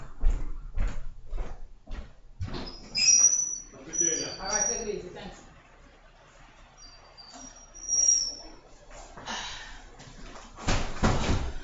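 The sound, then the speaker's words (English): A few sharp knocks sound on a door as a UPS delivery arrives, followed by high squeaking and the rattle and sweep of the door being opened, with faint movement in between. “That door is knocking.”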